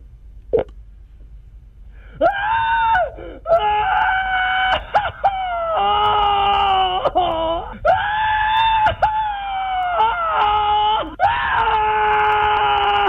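A string of long, loud, sustained screams in quick succession, piercing and strained, with brief breaks between them and a small click near the start, played back over the phone from a dialed number.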